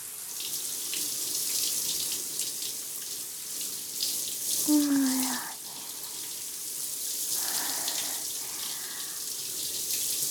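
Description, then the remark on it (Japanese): Shower water, set slightly lukewarm at about 35 degrees, runs steadily over hair to rinse the head, a continuous hissing spray lasting throughout, with a brief squeaky tone rising out of it partway through. “まずは、シャワーで頭を流しますよ。”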